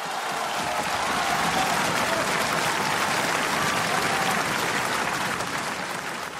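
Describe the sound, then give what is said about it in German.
Sustained, minutes-long applause and standing ovation from a large audience for Muti's critical words, a dense, steady wash of clapping that stays loud and even for the whole stretch, with faint crowd murmur mixed in and no break or fade. “Minutenlanger Applaus, Standing Ovations für Mutis kritische Worte.”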